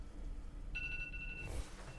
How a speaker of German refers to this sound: Warum habe ich einen Wecker um 11.15 Uhr?